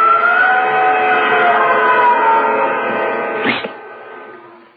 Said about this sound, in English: Did you hear that, Captain? Yes. Someone screamed. It must be from the beach. No, it isn't from the beach.